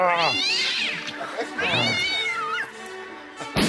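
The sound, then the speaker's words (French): A cat lets out two long, drawn-out meows in quick succession, loud, each rising and then falling in pitch, with a brief pause between them. “Salambré de chat ingrat ! Viens là !”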